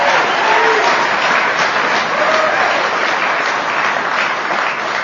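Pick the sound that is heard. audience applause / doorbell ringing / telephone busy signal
audience applause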